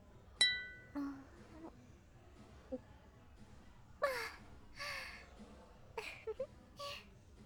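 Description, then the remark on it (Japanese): A sharp glass clink rings out near the start with a brief bright tone as drinks are toasted in a hostess club, followed by a softer knock, then several breathy gasps and sighs over a quiet background hum. “じゃあ乾杯。”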